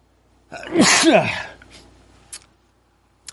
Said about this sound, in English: Sneeze.